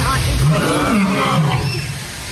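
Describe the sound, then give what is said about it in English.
A lion roars loudly, a deep, rumbling growl with wavering low tones that fills the whole moment before easing off slightly at the end. “The lions, and a lion starts to roar, and I hit him with a good one.”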